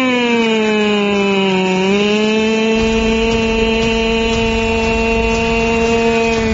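A power drill runs continuously with a loud, high-pitched motor whine that dips briefly in pitch before steadying again. No one speaks.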